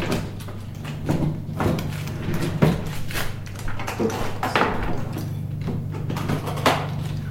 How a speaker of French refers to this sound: Il y a des bruits sourds, des bruits de froissement et de pas.